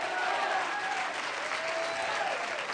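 audience clapping hands

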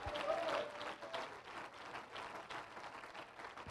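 audience clapping hands

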